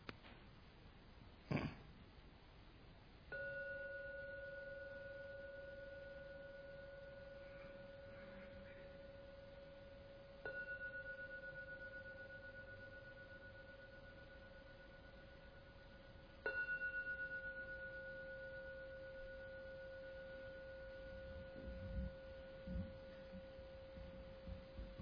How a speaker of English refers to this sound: I'm now going to ring the bell 3 times. Please wait till the last ringing of the bell vanishes and then come out from the meditation.